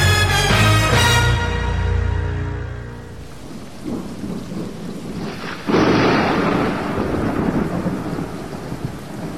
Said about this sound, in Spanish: Uy, está lloviendo muy duro.